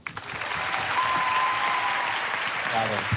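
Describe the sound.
A crowd breaks into steady, sustained applause, a dense wash of clapping that holds at an even loudness for a few seconds, with faint voices and whoops mixed underneath.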